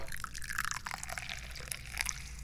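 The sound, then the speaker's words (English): A steady stream of tea pours from a big teapot into a cup, a continuous gurgling pour with bright trickling detail, fairly quiet and with no voices. “I've got a big teapot right here, and I'm going to pour some tea.”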